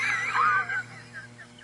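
An audience shouts together in a loud, excited burst that lasts under a second, then trails off into scattered, fainter calls over a low, steady hum.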